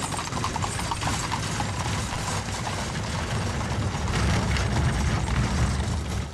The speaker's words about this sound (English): It's about a 5-minute ride from the stables. While the cemetery guards watch and tour buses idle, the caisson rolls through the gates of Arlington National Cemetery.